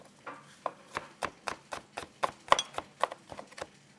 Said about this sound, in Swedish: Hacka chilin.